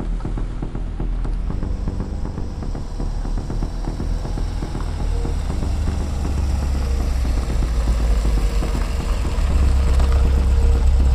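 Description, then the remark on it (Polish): A car engine drones steadily as the car turns off the route onto a forest road, with a deep rumbling low end and faint rattling texture, building slightly louder toward the end. No voices are heard. “zjechał z trasy i wjechał na leśną drogę.”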